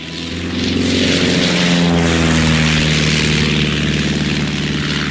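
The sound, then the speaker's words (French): A propeller airplane engine drones steadily and loudly, its deep harmonic hum rising slightly in pitch as it runs at full power, with no voices. “Un avion, c'est plus difficile à conduire qu'une voiture?”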